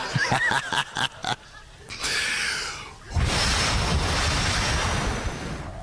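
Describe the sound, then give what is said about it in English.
A voice imitates barrels of water being poured, first with quick gurgling, snorting bursts, then a long, loud rushing hiss like water splashing out, fading slightly at the end. “People, my Bible came with sound effects.”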